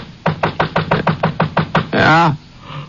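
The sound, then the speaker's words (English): A fast, steady run of about nine loud knocks pounds on the door of a rented room in the town of Single Pine at about 4:15, followed by a brief voice calling out. “Must have been about 4:15 when I heard somebody pounding at the door.”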